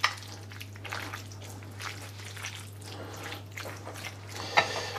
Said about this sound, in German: Da haben wir, glaube ich, ein bisschen Wasser rein.